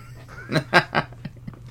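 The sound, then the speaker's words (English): A duck call blares three loud, raspy quacks in quick succession, followed by two shorter, softer quacks, with no talking. “I tried to pull out all the stops, so like the liner of my jacket and trench coat is just filled with different types of quack.”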